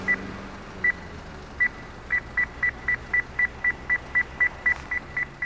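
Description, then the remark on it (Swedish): An accessible pedestrian signal beeps in a steady, quickening rhythm of short mid-high tones, rising clearly above a constant rumble of traffic noise, at a large road leading into a factory where the walkway along Rusinova street ends. “Här finns en trafiksignal med ljud som fungerar.”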